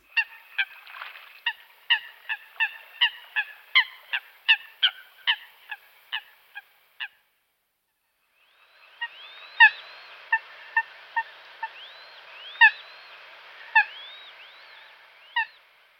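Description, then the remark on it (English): A coot gives a rapid series of sharp, clean calls that sound a little like its name, then pauses before more spaced-out calls ring out over a soft background of other birds, fairly loud. “coots give a sharp, clean call that sounds just a little like their name.”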